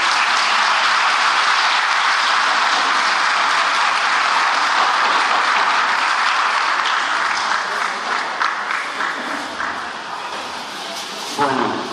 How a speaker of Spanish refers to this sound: Quiero pedir un fuerte aplauso para toda la gente que ha trabajado durante todo este tiempo en el club, tanto sea en el club como en el fútbol. Un fuerte aplauso para todos los que han venido.